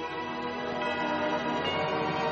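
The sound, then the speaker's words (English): Church bells ring steadily for Christmas, their overlapping tones humming together in a continuous, fairly loud wash, with faint fresh strikes blending into the sustained resonance and no voices. “At that moment, the church bells began to ring.”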